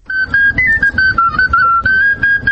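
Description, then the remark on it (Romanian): A 13-year-old boy plays a lively, high melody of short connected notes on a fluier folk flute, fairly loud, over a low murmuring background like an outdoor crowd, at a campaign launch show in the square of Ștefan cel Mare Park. “Micul fluierist, care participă și el la spectacolul de lansare a campaniei”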